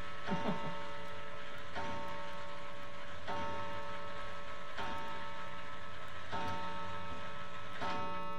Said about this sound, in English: I should have turned that clock off.